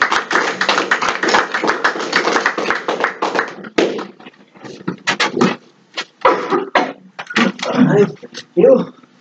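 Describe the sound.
A crowd claps steadily for a few seconds after a prayer, a dense patter of many hands, then the applause thins into scattered claps and fades out amid a few voices.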